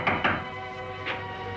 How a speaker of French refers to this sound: Il est maintenant 9h du matin dans le bar de la marine. César frappe en vain à la porte de la chambre de son fils.